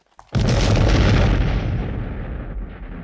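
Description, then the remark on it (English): A sudden, massive gas explosion in the No. 8 range of a coal mine, sending a ball of flame through it, erupts with a deep, roaring blast, then rumbles on loudly for several seconds, its low thunder slowly fading. No voices are heard. “The explosion sends a ball of flame through every part of No. 8 range, killing instantly the 28 men and boys working there.”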